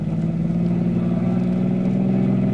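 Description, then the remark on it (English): A car engine roars steadily and loudly throughout, its deep droning hum holding strong with slight shifts in pitch as the car is driven hard through heavy traffic while being chased by a police sedan. No voices are heard. “Give them more, Red. An awful lot of traffic.”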